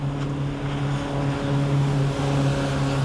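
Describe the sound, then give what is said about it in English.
A motorbike passing by outdoors, its engine droning steadily at a fairly constant pitch, loud, with a faint wind-like hiss behind it and no voices. “The motorbike went past”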